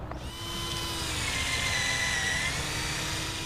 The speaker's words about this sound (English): A forester drills small holes near the base of an ash tree in North St. Louis. He's drilling that low because that's where the tree's xylem is, the system of tissues that push nutrients into the rest of the tree.